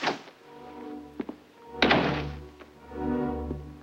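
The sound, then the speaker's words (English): An outside door is shut with a solid, heavy thunk, preceded by a couple of small knocks and followed by a low lingering hum. No one speaks. “With quick, shallow breaths, he walks across the room, shuts the outside door, and switches off the lights.”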